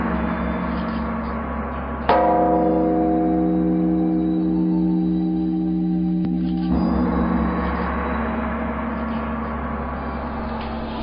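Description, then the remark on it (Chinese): A deep temple bell of the Youming Zhongting on Mokong Ridge in the Jiuhua Mountains, rung at nightfall in faint moonlight, is struck once and rings out with a long, resonant hum that slowly fades, followed by a second softer strike, echoing against a faint background wash. “天色慢慢黑了下来，在依稀的月光中，磨空岭上幽冥中庭的钟声响彻九华群山。”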